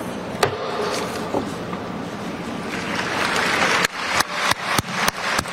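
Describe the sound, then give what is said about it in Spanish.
A sharp wooden gavel knock rings out at the signing of the agreement ending the COP30 climate summit in Belém, Brazil, followed by steady, dense applause from a crowd, with a quick run of loud gavel raps cutting through the clapping near the end. “Este era el sonido del mazo en el momento de la firma y los aplausos posteriores.”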